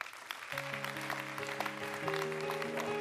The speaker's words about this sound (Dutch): Dan wou ik Stef Blok er graag bij vragen. Want we gaan toch nog even aan de inhoud werken. Dus kom erbij en mag best met applaus.